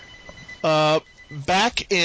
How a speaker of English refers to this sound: I have the phone going. It's not my phone.